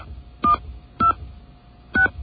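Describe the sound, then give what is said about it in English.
Three short touch-tone keypad beeps, evenly spaced about half a second apart, as a 10-digit home telephone number is keyed in on an automated phone line over a faint steady hum; no voices. “Please enter your 10-digit home telephone number beginning with area code.”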